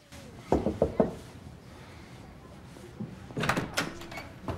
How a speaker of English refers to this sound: Noah walks along the corridor of Claire's college halls and knocks on her door.